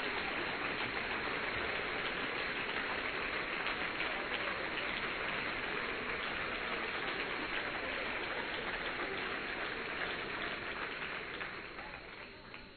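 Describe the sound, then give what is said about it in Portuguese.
An audience at a worship gathering applauds the Lord in a dense, steady wash of many hands clapping that holds for about twelve seconds before tapering off at the end. “Aplauda o Senhor, celebra o seu nome.”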